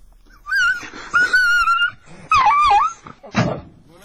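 dog yelping in pain

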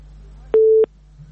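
phone busy tone

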